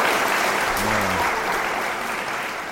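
Steady, dense applause from an audience, a broad wash of clapping that stays loud throughout, with a brief low hum of voices briefly rising underneath near the start.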